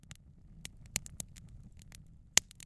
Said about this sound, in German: Ich gebe das in einen Stoffbeutel und drücke das ganz langsam, auch wiederum relativ nah am Mikrofon, dann entsteht dieses Knistern.